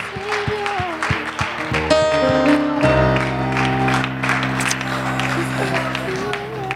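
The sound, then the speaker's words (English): A church audience applauds steadily to praise the Lord, the dense clapping blending with a sustained organ chord and scattered voices throughout. “Oh, why don't we applaud the Lord right now for his goodness? We applaud you, Jesus.”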